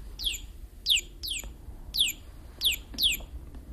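A bird sings a short series of high, sweeping chirps, about six quick descending notes spaced roughly half a second apart, clear over a low background rumble.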